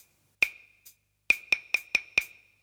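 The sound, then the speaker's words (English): A rhythm of sharp, bright percussive hits with a slight ringing tone, clapping the Razzmatazz rhythm: one loud strike, a soft tap, then five quick, evenly spaced strikes. No one talks. “Razzmatazz, you can play it on the claves. Clap it.”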